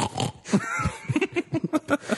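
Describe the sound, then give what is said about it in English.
A voice mimics a pig, starting with a drawn-out squeal and breaking into a quick run of short, rhythmic grunting snorts, loud. “He goes, squeal like a pig.”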